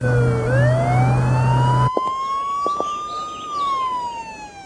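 A police car siren wails with a long rising-and-falling tone as police approach, loud and continuous, over a low engine rumble that drops away partway through as the siren carries on.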